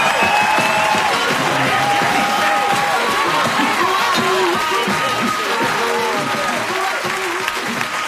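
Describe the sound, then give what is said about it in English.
A large Tool Time studio audience claps and cheers steadily for several seconds, welcoming the crew of K&B Construction Company onto the show, a loud, sustained wash of applause with scattered whoops and voices mixed into the crowd noise. “Let's get them out here with a big round of applause to the Tool Time crowd.”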